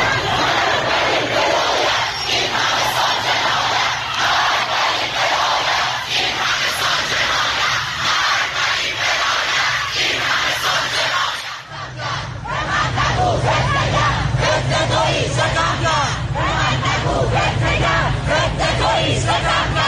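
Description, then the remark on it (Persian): A large crowd of protesters in Tehran, in front of Amirkabir University on Hafez Street, chants slogans such as "Sepahi haya kon, mamlekat ro raha kon" over the late announcement of the Ukrainian plane crash cause, in loud, rhythmic unison, voices rising and falling together over continuous crowd noise, with a brief dip before the chanting resumes. “شعارهای دیگه‌ای هم بود از جمله سپاهی حیا کن، مملکت رو رها کن و چند شعار دیگه که با هم گوش می‌کنیم.”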